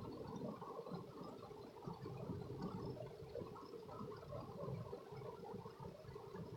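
Rain falls steadily in a dense, continuous patter, a soft unbroken wash of droplets with no voices and no pauses.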